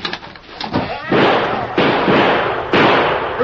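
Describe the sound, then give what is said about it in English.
Three loud gunshots in a Lone Ranger drama ring out roughly a second apart, each a sharp, explosive crack trailing into a lingering rumble, with faint scuffling before the first and no talking. “You were trying to kill me, so you shot too high.”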